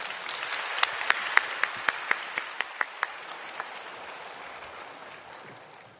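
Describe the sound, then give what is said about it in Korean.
A church audience applauds to welcome a speaker coming forward to give a testimony about a mission trip to Japan, a dense wash of clapping with several sharp claps standing out early on, then the applause gradually thins and fades toward the end. “나오실 때 우리 박수로 맞이해 주시기를 바랍니다.”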